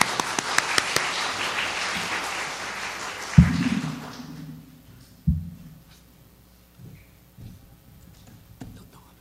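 An audience applauds warmly to welcome a guest pastor as speaker, with dense, steady clapping that fades out after about four seconds, followed by a few dull low thumps and near quiet.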